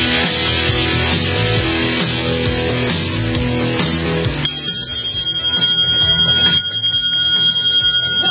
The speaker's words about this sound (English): Is that the dinner bell? It is.